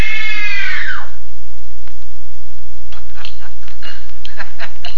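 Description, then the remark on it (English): A woman lets out a loud, piercing scream of terror on direction during a screen test, lasting about a second, then it cuts off, leaving quiet with a few faint clicks and taps. “Now scream. No! Scream! No! Scream for your life!”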